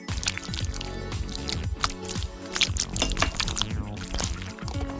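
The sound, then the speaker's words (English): Water pours steadily from a measuring cup for several seconds with splashy, gurgling bursts and drips, fairly loud, with no one speaking. The water is being added for a Chef Boyardee drinkable sauce kit. “Add some water with the included measuring cup.”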